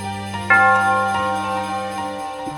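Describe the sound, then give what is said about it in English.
A Christmas dinner bell rings out with a bright struck tone that hangs in the air, its layered ringing overtones sustaining steadily and slowly fading over a couple of seconds, with no voices. “Oh, there's the Christmas dinner bell.”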